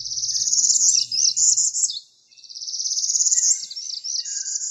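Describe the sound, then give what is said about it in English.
Two high, buzzy northern parula songs, each a trilled rising buzz climbing in pitch and ending with a sharp flourish, loud and clear with a brief pause between them and no voices. “warbler that you can probably see and hear in your neighborhood around now is the northern parula, tiny but stunning in blues, reds, and yellows in spring. Listen for their rising, buzzy songs from any kind of flowering tree over the next few weeks.”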